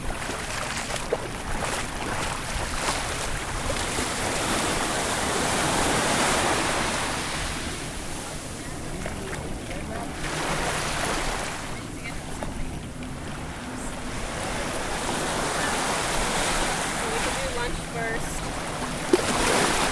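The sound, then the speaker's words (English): A steady, full rush of running water continues for the whole stretch, loud, with gentle swells in intensity but no breaks or distinct splashes. “hold on, I'm going to play musical water again, and then I'll be right back.”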